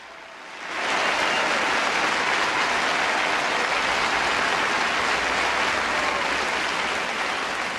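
A crowd bursts into sustained applause after a brief quiet start, dense clapping mixed with cheers holding steady and loud for several seconds before easing slightly.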